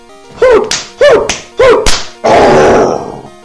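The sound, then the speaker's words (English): Three quick whooshing, wet-sounding slaps with rising swoops, each capped by a sharp crack, followed by a louder, longer splattering burst, a video game Mud Slap attack effect. No voices. “Okay, now use Mud Slap.”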